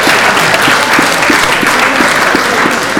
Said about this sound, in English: Yourselves a round of applause.